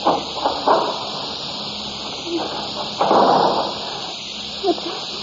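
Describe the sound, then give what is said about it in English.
A cellar door is pushed open with a few scraping, creaking bursts, the loudest in the middle, over a steady hiss of background noise and low murmuring. “Open this door.”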